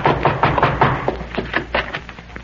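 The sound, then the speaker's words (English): The knuckles of a man from the Good Samaritan Finance Company rap hard on a door, demanding it be opened, in a rapid, uneven burst of about ten loud knocks over a couple of seconds, with no one speaking. “Open that door before I beat it down.”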